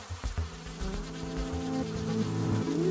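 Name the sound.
bee buzzing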